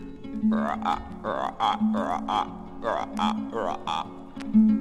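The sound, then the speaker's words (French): A human voice mimics frogs croaking in a run of about eight short, rhythmic, throaty bursts, fairly loud, with no words spoken. “Eh bien, ce petit garçon s'assoit sur un tronc d'arbre et il écoute les grenouilles.”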